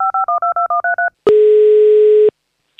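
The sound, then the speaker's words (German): A rapid run of eight loud touch-tone dialing beeps as a children's radio host phones a child listener, followed by a single long, steady telephone tone that cuts off. No voices. “So, und ich rufe schon das nächste Kind an.”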